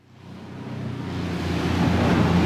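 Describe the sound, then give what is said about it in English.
A steady roar of wind and rushing water builds gradually, a broad, continuous wash with a low rumble underneath: waves and gusts heard from a boat heading out to sea from the city of Lagos, with tankers sitting offshore waiting for the port. No voices. “We're now heading out to sea, and the huge city of Lagos is disappearing from sight.”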